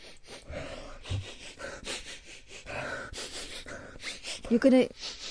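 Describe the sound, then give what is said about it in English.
Breathy sniffing and inhaling of a magazine cover repeat over several seconds at an uneven pace, with rustling in between and a short voiced murmur near the end. “Can I have a sniff?”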